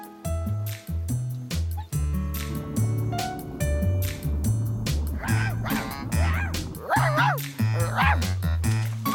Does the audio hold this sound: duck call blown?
no